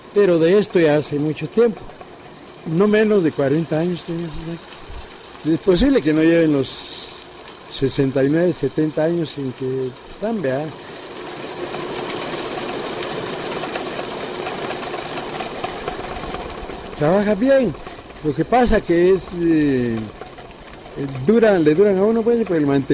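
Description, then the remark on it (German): A cocoa grinding mill's motor, made by AEG in Germany, runs with a steady, droning mechanical hum in a mill in the city of Quetzaltenango. It is heard alone for several seconds between stretches of a man talking and stays faintly in the background under his voice. “Wir sind in der Stadt Quetzaltenango, in meiner Mühle, in der Kakao gemahlen wird.”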